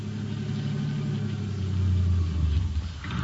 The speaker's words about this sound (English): All right, now turn off the engine.